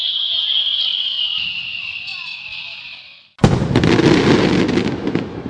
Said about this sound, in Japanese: おつなもんでしょ、冬の花火ってのも。本当は雪でも降ってればもっと最高だったんですけど。